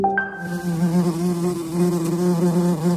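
A steady insect buzz drones on for several seconds, a low humming tone that wavers slightly in pitch and loudness, with no voices. It is the buzzing of a new beetle species discovered by scientists in the rainforest of Costa Rica, made not in flight but while riding piggyback on army ants.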